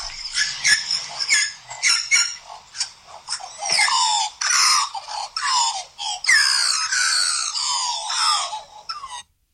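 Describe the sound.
A person mimics a magpie's morning call with a rapid run of high, warbling whistles and squeaky chirps, loud and continuous for about nine seconds with short pauses, no other voices.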